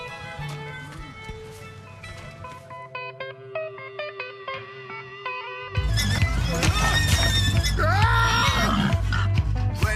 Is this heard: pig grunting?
yes